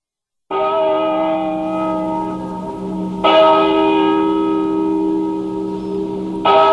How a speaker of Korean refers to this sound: 아침 7시를 알리는 종소리가 들리자 찬란하게 옷을 차려입은 귀부인들이 물결치듯 흔들리며 성당 안으로 입장했다.